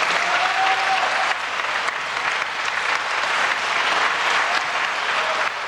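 Sustained applause in Bulgaria from supporters of We Continue the Change, BSP and DB, parties that fell from power, at the end of a speech by Kiril Petkov: a dense steady wash of clapping that stays loud and even for the full length with no gaps and no speech over it.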